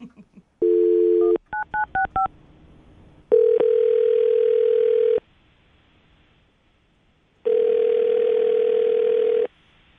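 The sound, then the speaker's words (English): A steady telephone dial tone, then a quick run of about six keypad beeps as a phone number is dialed for a call, followed by two long ringback tones separated by a pause, clear with no talking. “I'm going to dial the phone number right now and let you make your Awkward Tuesday phone call.”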